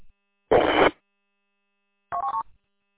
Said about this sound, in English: Alpha Alpha Zero Hotel Papa, please turn off your Roger beep. You don't need to send a Roger beep on the network. Thank you.